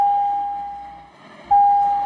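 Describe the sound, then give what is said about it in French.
Division bells of the Canadian House of Commons in Ottawa ring in a steady, high electric tone, calling members of parliament to vote. The sound dips and thins partway through, then abruptly returns at full loudness. No voices are heard. “Quand ils entendent ces cloches, ils savent qu'ils doivent se rendre à la Chambre des communes pour voter.”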